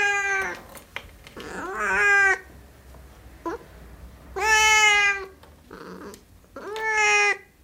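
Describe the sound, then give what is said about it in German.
A cat meows repeatedly in drawn-out, wavering calls, about five distinct vocalizations with short pauses between, fairly loud, with no talking. “Gurren, miauen, schnattern, keckern, knurren, zischen und fauchen, kombiniert mit hin und her wedelndem Schwanz, angelegten oder weggedrehten Ohren, Buckel oder steil aufgestelltem Schwanz mit gebogener Spitze.”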